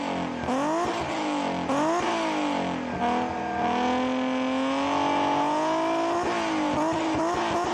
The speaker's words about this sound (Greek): Εκπληκτικός κινητήρας αυτός. Ατμοσφαιρικός γρήγορος κινητήρας. Με άμεση απόφαση. Old fashion κινητήρας. Χαρακτηριστικός ο ήχος του. Έτσι. Αν ακούς αυτό τον V6 να βρυχάτε, ξέρεις ότι μιλάς για Αλφα Ρωμαίο.